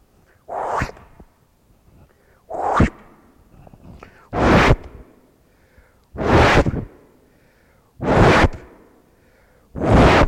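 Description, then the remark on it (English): Six sharp whip swishes lash through the air at a steady pace, roughly two seconds apart, each a loud, airy crack-like whoosh with quiet pauses between. “If I could preach justification by the whip and chain people up here, and they could get up here, and then we'd whip them.”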